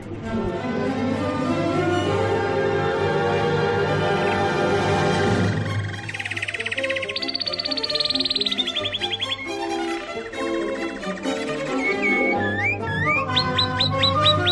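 A bird trills and chirps in bright, rapid warbling bursts, with quick rising whistles near the end, loud and close over a steady low musical hum.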